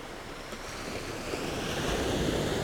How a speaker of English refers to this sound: I'd say you'd have to be fit, but the waves will carry you in whether you like it or not. Whether you can stand up or not, the waves will take you.